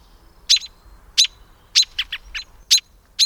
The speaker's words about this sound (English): And when you hear the distress call of a bird, go outside and have a look. Your presence may be a lifesaver.